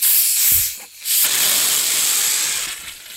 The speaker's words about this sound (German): Jeder, der mal eine Sprudelflasche geöffnet hat, kennt es.